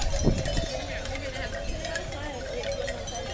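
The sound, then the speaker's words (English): Hollow wooden clonks and knocks tumble irregularly as bamboo wind chimes swing in Aruba, layered over a steady rush of wind noise throughout. “Okay, those are some bamboo wind chimes here.”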